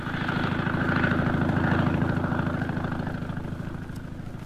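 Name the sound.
airplane engines roaring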